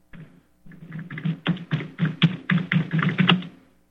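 Rapid, forceful typing on a computer keyboard, with hard, heavy keystrokes hammering in a quick irregular rhythm, fairly loud, no voices.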